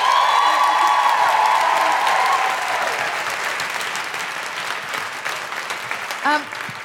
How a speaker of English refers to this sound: Big round of applause for Janelle.